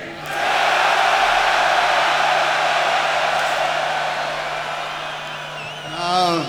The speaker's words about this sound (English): So I'm gonna count to three, and then we would like everyone to make more noise than they've ever made before in their lives, okay? It should be fun. It's gonna be fun. So take a big breath. Here we go. One, two, three.